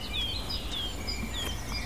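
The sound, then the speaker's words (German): A Eurasian blackcap gives a few hard ticking alarm calls, mixed with thin high whistles from other birds, over a steady low outdoor rumble. “Die harten Warnrufe der Grasmücke.”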